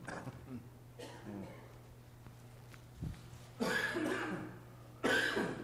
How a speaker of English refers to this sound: Excuse my cough. I got over a cold, and I've got a lingering cough that just will not leave me be.